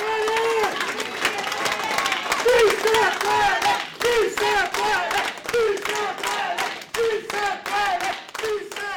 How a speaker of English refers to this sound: an organizer with CASA, leads the crowd shouting, "Yes, we can."